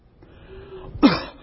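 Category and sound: human body sound, coughing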